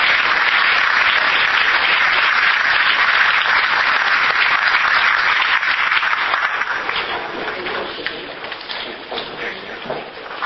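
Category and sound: crowd, audience applause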